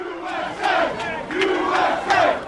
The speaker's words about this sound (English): And in Boston, which won the Stanley Cup, the crowds in the streets were peaceful, but here's what they chanted.